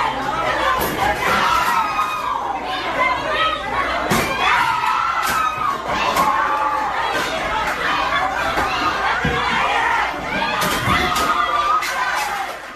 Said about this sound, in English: Dozens of teenagers at a mini golf course in Memphis trashed the arcade after they claimed a machine took their cash. Do they go to the man with all the keys? No, they do this.